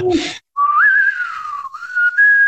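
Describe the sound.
A person whistles a short melodic tune from a Clint Eastwood western movie, a single clear sustained tone gliding up and holding steady, preceded by a brief burst of breathy noise.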